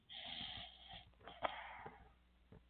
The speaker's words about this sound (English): Is he snoring?